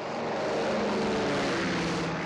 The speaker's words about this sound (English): So here comes the plane. We could hear it sort of lumbering along, and you could see it, and it gets over the spot, and it circles around,